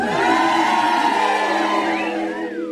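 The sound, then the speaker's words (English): A show audience cheers loudly and steadily in response to the host asking the ladies to cheer, a dense roar of many voices with higher shouts and whoops rising out of it, holding at full strength for a few seconds before easing slightly. “Cheer if you're a lady.”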